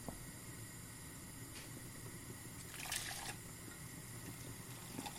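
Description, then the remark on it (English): Milk used for poaching fish, just brought to a boil and turned off, being poured carefully back into a jug so the fish stays behind: a soft, steady trickle of liquid with a brief, brighter splash partway through, then settling back to a quiet pour. No one speaks. “And then I'm going to pour the liquid back into the jug.”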